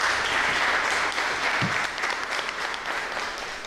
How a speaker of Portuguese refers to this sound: Merece uma salva de palmas, hein?